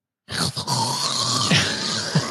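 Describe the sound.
A voice imitates a man's snoring: a continuous, raspy, throaty rumble lasting about two seconds, broken by a couple of sharp catching, choking gasps near the end.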